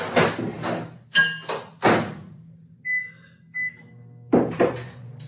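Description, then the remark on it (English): A microwave door clunks open and shut, then two short electronic beeps sound and the oven hums steadily before another door thump near the end, with no talking. “Can you throw a fork in the microwave for like 10 minutes?”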